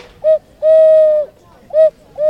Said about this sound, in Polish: Też ptaszki, do których wlewa się wody i grają sowy, kukułki, no przeróżne zabawki, każda wydaje dźwięk. Mam wyciągniętą sowę.